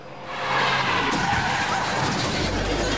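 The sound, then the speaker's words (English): A fast car skids hard, its tires screeching in a loud, sustained hiss for about three seconds, with a deep engine rumble swelling toward the end as it comes to a stop. “Whoa, this car goes fast.”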